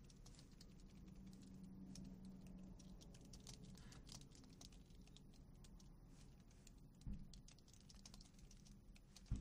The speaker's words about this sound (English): Hold on, I'm typing something. Got to do this, can't help it.